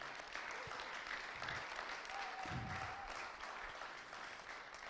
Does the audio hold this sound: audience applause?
yes